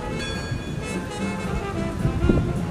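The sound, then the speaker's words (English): Steady churning river water with a low mechanical rumble underneath as the Mark Twain riverboat is about to pull away; a continuous, moderately loud wash with no one speaking. “Well, the Mark Twain's about to pull away.”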